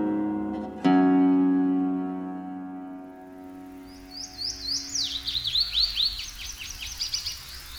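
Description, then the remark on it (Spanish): A ringing musical tone fades out, then a white-collared seedeater (Sporophila torquiola, order Passeriformes, family Emberizidae) sings a quick, bright series of high, sweet whistled notes, clear, with no talking. “Semillero de collar, de nombre científico Esporophila torquiola.”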